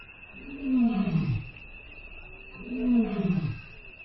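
lion roaring

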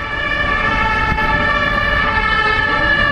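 ambulance sirens

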